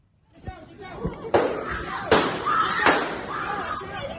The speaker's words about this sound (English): The moment of sheer panic as gunshots are fired on a New York City subway carriage and desperate riders are finally able to flee the confined car.